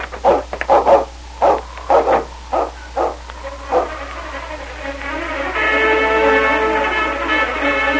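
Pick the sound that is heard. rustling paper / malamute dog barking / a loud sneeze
malamute dog barking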